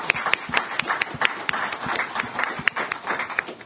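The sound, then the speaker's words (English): A conference audience applauds a panel after a discussion, a dense wash of many overlapping hand claps with sharper individual claps popping out, sustained at even loudness for the whole stretch. “Singer, as he comes forward, can I ask that we give this panel a round of applause for a very stimulating discussion?”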